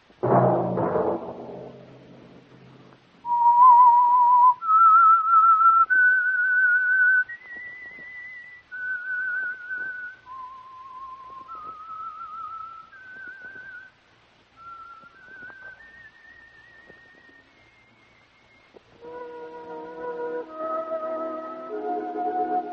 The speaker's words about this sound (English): That whistle be your signal for the Signal Oil program, The Whistler.